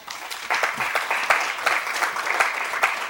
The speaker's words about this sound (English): Thank you. Once you start the clapping precedent, you have to keep it up, you know.